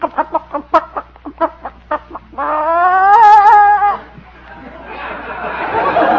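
A sitting hen clucks in a quick run of about a dozen sharp clucks as a person reaches in under her for an egg, then lets out a long, loud protesting squawk before the sound gives way to rustling, flapping noise.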